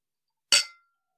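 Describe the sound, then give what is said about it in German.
A single bright clink of glasses touching in a toast, sharp, with a short ringing tail that fades within a fraction of a second in otherwise silence. “Stößchen, ihr Rühris. Prost. Prost.”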